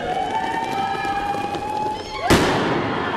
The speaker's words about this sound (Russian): В конце под бурные аплодисменты вспыхнули фейерверки.